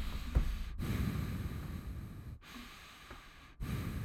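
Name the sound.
voice imitating ocean waves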